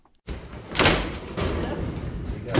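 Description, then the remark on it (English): A roll-up door at a facility in West Los Angeles holding a collection of items from Marlon Brando's life is hauled open, a loud, continuous metallic rattle that starts abruptly and surges several times over a couple of seconds. “Behind this roll-up door sits a collection of items from the very public life of Marlon Brando, the actor.”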